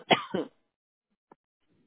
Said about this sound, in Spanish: Ay, disculpa que acá estoy yo con una tos, ay Dios mío, que no se me para.